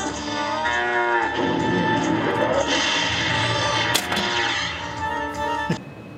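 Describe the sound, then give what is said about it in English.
A loud, drawn-out cow moo from a Tales of the Arabian Nights pinball machine, awarded on the fourth activation after hitting both flippers at the Bizarre Awards, its low lowing tone sliding and sustaining for several seconds, with a brief sharp clack near the end and no talking. “On the fourth time, you get the cow worth $1 million.”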